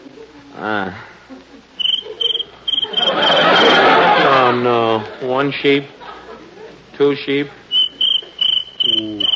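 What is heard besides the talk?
cricket chirping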